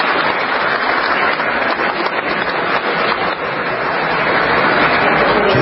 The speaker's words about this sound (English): Let's listen to the applause.